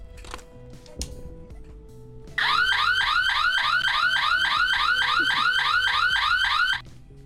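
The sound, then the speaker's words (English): A burglar alarm suddenly blares, a loud electronic wail cycling through rapid repeating rising sweeps for about four seconds before cutting off, with faint background tones before it starts. “If we had a burglar alarm ringing, and we tripped the other burglar alarm accidentally, you wouldn't be able to hear the real burglar alarm because the other one would be ringing so loudly.”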